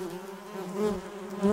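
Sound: bee buzzing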